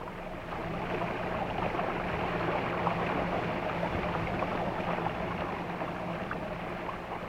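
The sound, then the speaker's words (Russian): A ship moves steadily out into the open sea in fair weather, with a constant low engine drone and a soft wash of small waves against the hull, even and unbroken throughout with no voices. “Ну вот, и вышли в открытое море. Погодка-то ничего. Хорошее начало. И волны мелкие.”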